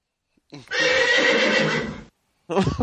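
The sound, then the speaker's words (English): A horse lets out a loud, long whinny lasting over a second, its high quavering tone wavering throughout, followed after a short pause by a brief second burst of sound. “I love you, horsey.”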